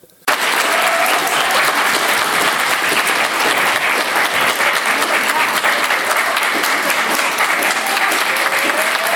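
A large audience breaks into loud, sustained, stormy applause that starts abruptly and continues steadily with dense, rapid clapping, with no one speaking over it.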